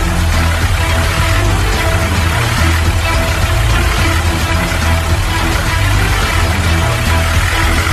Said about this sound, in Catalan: Però què passa? Què és? El cotxe en marxa?